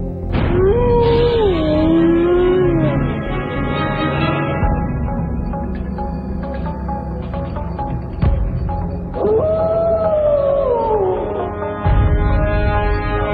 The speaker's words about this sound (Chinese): 狼之长嚎，作者查戈兰草。